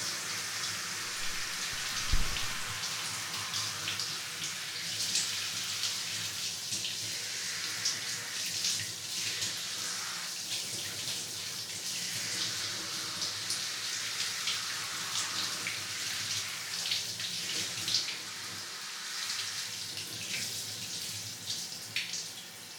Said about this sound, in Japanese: おお、お湯かけたら一気にボリューム減ったね。雨の日のワンコみたい。